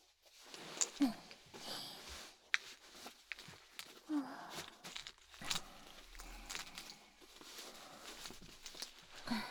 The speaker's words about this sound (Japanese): やっと素直になった。とりあえず紐付きの足かせをつけさせてもらうね。